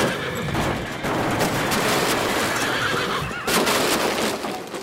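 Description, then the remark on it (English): A horse pulling a horse-drawn carriage whinnies loudly over a dense, clattering racket of hooves, with sharp bursts of impact noise near the middle and again toward the end as a trolley crashes into the carriage at full speed, in Pittsfield, Massachusetts, in September 1902; constant, with no talking. “In September of 1902, as he's driving through Pittsfield, Massachusetts, a trolley pummels into his horse-drawn carriage full speed.”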